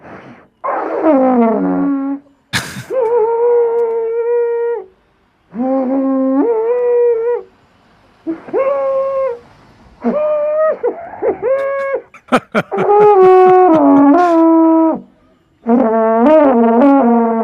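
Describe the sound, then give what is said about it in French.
A beginner, a woman, blows rough, wavering notes on an alphorn in La Brévine: about nine loud blasts separated by short pauses, some held steady, others cracking, sliding or breaking off abruptly. “Alors on va entendre ça, on va voir ce qu'elle arrive à nous sortir du cor alors des voilà, Alpes.”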